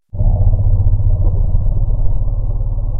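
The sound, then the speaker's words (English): A deep, steady elephant rumble, low and loud, starting abruptly and droning without a break for about three seconds, with a growly, throbbing texture; no one speaks. It is a modified recording of an elephant bee-alarm rumble, with researchers having removed key acoustic features thought specific to the bee response. “which is essentially the same vocalization you heard before, but the researchers removed some key acoustical features in it that they think were specific to the bee response”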